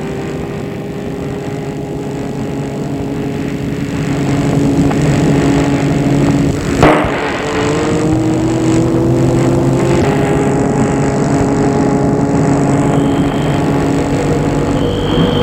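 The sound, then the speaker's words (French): A car engine idles steadily, then grows louder, and after a sharp thump near the middle it revs up and pulls away, its drone rising in pitch. No one speaks. “Et la voiture démarre.”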